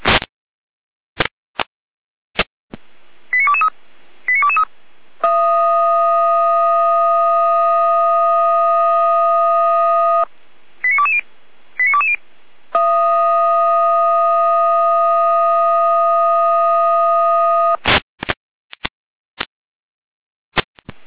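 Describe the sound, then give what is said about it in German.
Fire brigade radio alerting tones for a call-out to Ebersdorf over water in a basement and garage: sharp clicks, short two-note beep sequences, then two long, steady, buzzy tones of about five seconds each, separated by more beeps, with no talking. “Lechte Letalfeld mit Alarmierung.”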